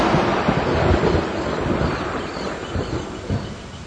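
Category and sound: nature, thunder crack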